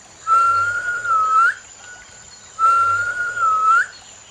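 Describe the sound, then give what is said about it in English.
A person whistles two bird-like phrases, each a sustained pure tone with a gliding upward flourish at the end, separated by a short pause, clear and close. “The sounds of the birds whistling.”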